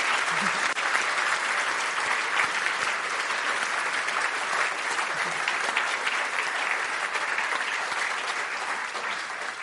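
A crowd claps steadily for nearly ten seconds to thank a guest for sharing that morning, a dense, even wash of applause that holds at a constant level before easing slightly at the end.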